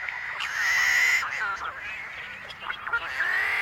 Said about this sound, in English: Are the combined voices of tricolored blackbirds in a California marsh.